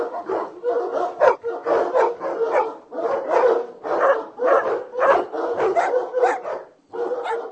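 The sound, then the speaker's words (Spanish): A pack of hunting hounds barks and bays continuously, many overlapping voices forming a dense, chorus-like din that swells and dips over several seconds with no clear pauses. “Para formar parte del selecto grupo de perros, era importante también la voz del can, ya que la jauría debía ladrar armónica y afinadamente.”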